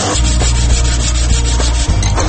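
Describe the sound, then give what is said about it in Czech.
Steady, abrasive sanding of wood in the workshop of a pensioner couple from Konjic who make wooden baskets, wine stands and souvenirs: a continuous loud rasping hiss with rhythmic back-and-forth strokes and a low hum underneath, with no voices present. “pa smo zavirili u njihovu radionicu i čuli ove zvuke.”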